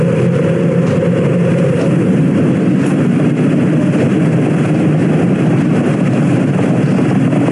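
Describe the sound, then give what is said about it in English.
A continuous, heavy roar of the Space Shuttle Challenger's main engines during liftoff and ascent on the 25th Space Shuttle mission rumbles steadily throughout, loud and dense with deep low-end energy and a constant crackling hiss, with no voices. “Liftoff of the 25th Space Shuttle mission, and it has cleared the tower. Roger, roll, Challenger. Program confirmed. Challenger now heading downrange.”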